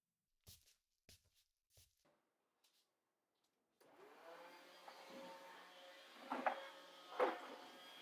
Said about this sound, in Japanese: 掃除機をかけるから、猫さんは少しどいていてくださいね。